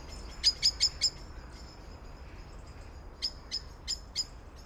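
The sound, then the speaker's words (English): An owl calls at night: a quick run of four sharp, high-pitched notes, a pause, then four more spaced out, standing clearly above a quiet, low background hum. “We eventually got an owl, which I found.”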